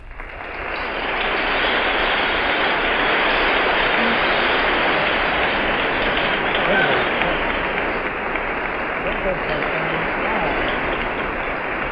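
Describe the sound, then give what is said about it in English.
A huge standing crowd applauds continuously as General Eisenhower shakes hands with the speaker, a dense, steady roar of clapping that swells in within the first second and holds loud and unbroken, with faint cheering mixed in. “The applause is tremendous.”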